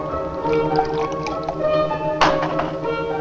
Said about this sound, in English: Hearing the street door close, he breathes a sigh of relief and pours himself a large whiskey.